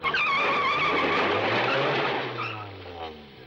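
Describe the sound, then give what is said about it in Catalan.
A car lurches, its tires screeching in a loud, sustained skid, the squeal wavering over a low engine rumble before fading as the vehicle slows to a stop at the side of the road. “El cotxe fa una batzegada i en Goku surt volant.”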